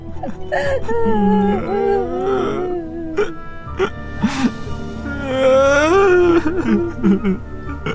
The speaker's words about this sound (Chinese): 夏甲把儿子留在一簇灌木下，自己走到离孩子约一箭之远的地方，对着孩子坐下，在那里放声大哭起来，说： 我不忍心看着他死啊。